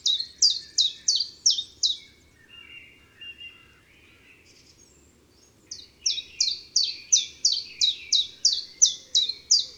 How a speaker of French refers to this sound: Le pouillot véloce avec ses tip-tap-tip-tap-tip.